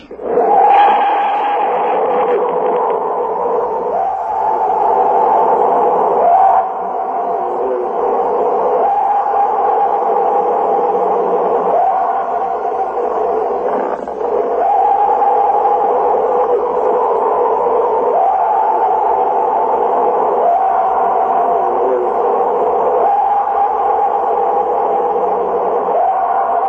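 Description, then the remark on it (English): A purported Bigfoot scream recorded by researchers: loud, drawn-out, wavering howls that rise and fall, repeating every few seconds for the whole recording, with a muffled, tinny quality and no talking. “Said to be a Bigfoot scream.”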